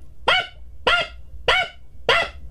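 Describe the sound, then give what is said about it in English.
A chihuahua lets out four sharp, high-pitched yaps in a steady rhythm about half a second apart, loud, with no voices. “The guy said that he had a chihuahua, and that every morning, like 1, 2, or 3 in the morning, the dog wakes up and starts barking at the ceiling fan.”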